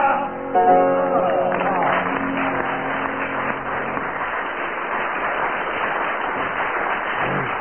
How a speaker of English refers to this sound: So the audience applauded for 25 seconds, which gains you 4 marks.